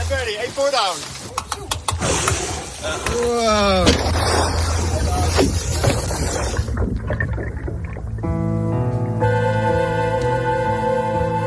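Sharp knocks and thuds strike a sailboat hull as orcas bump it, mixed with rising squealing whistles and rushing water. A steady, buzzing mechanical hum follows.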